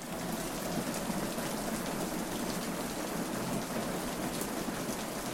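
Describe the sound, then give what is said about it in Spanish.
Heavy rain pours steadily and has grown stronger, a dense, unbroken hiss of drops striking surfaces, with no voices and no letup across the whole stretch. “O sea, ahorita ya se vino más fuerte la lluvia.”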